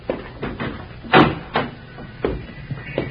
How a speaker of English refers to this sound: I'll open the door.